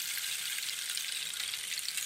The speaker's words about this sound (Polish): Tutaj mamy kij deszczowy, też chyba był.